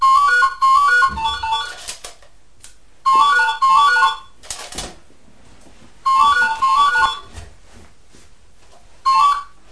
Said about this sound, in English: The phone always rings when we're recording